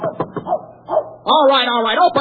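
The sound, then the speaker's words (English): A dog barks several times in short, quick bursts, then gives a longer, drawn-out bark, fairly loud. “God damn, dog.”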